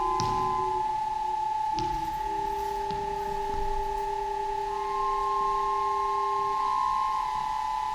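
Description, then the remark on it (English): Small solenoid hammers, switched on by electrical switches, tap on the building's pillars in an installation at the Roundhouse in Chalk Farm, Camden Town, a few times, each strike followed by steady, overlapping ringing tones that hum on throughout, with no one speaking. “Just electrical switches that turn on these little hammers going solenoids that just hit the pillars.”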